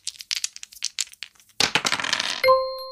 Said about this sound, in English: I flipped the switch to extreme and I rolled the dice again. And it said touch balls.